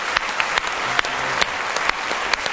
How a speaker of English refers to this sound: Oh, give Him a hand clap of praise. Hallelujah.